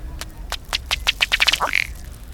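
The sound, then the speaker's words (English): A male duck's bubbling display, a bright rufous red duck with black and white head and sky blue bill striking his inflated neck with his bill to force air through the feathers and bubble the water: a quickening series of dry ticking pulses ending in a short, burping belch as head and tail jerk forward, with no voices. “The male's display ends with his head and tail jerking forward and a low belching sound.”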